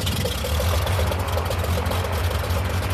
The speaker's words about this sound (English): The first of a dozen small planes start up, gathered for an aerial census of the elephant population.